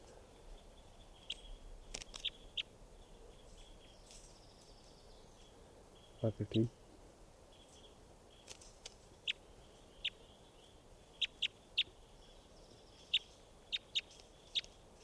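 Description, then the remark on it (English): Short, high-pitched chirps from a recorded bird numbered 515 repeat irregularly throughout, mostly brief single notes with some quick clusters, over a soft steady background hiss, with one low thump partway through. “So recording bird 515.”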